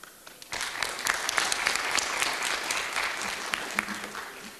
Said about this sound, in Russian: Если воспринимать ваши овации как согласие с тем, чтобы кто-то из здесь присутствующих ответил на этот вопрос, то что же, пожалуйста, у нас есть кому ответить.